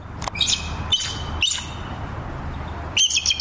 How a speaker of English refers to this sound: But in reality, America's national avian symbol of strength and freedom actually sounds like a glorified seagull.